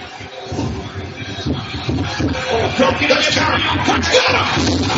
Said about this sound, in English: Yeah, huge cheer for that.